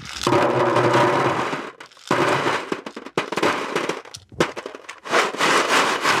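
Electronic components from repaired washing machines and dishwashers trickle into a drum in a dense, rattling clatter, a continuous shower of crackling impacts that thins into scattered clicks and taps, then surges again in louder bursts.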